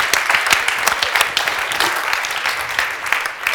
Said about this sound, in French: Can we give the Lord another hand? I just like thanking God. Est-ce qu'on peut encore applaudir le Seigneur bien fort?